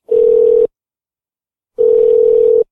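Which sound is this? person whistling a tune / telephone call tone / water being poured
telephone call tone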